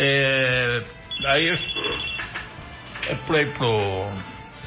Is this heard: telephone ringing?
yes